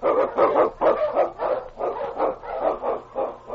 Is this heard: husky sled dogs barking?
yes